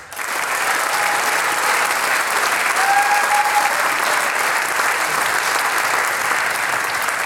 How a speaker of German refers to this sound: Einen riesigen Applaus noch einmal für den Harmonikasieger 2025